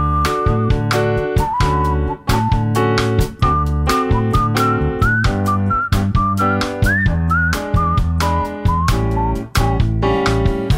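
A bright whistled melody rises and falls over a full instrumental backing with a steady, punchy drum beat, loud throughout, with no voices.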